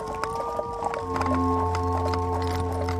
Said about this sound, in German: Dieses Fahren in Kutschen mit Pferden, die einheitliche Kleidung, die Häubchen und die Kleidung der Männer auch.